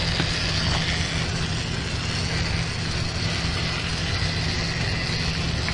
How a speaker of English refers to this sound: The little engine is going to come and to try to rescue it by pushing it back out of the tunnel.